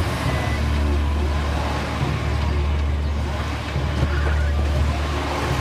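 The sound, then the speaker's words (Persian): A car engine rumbles steadily as someone gets into the car, a continuous low droning hum with no pauses and only slight swells in loudness, heard without any clear speech. “اماد سوار ماشین میشه.”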